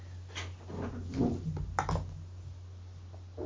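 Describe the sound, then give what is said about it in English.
A few muffled knocks on a door, irregularly spaced, made by the speaker's daughter wanting to come in, over a steady low electrical hum. No one speaks. “One second, there's somebody at the door, sorry.”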